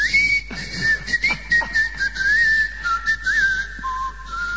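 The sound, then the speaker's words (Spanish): A person whistles a short, wavering signature tune, holding mostly steady high notes with small pitch bends before dropping to a lower final note. No one speaks. “¿Acaso usted le enseñó un chiflido característico del orden de...?”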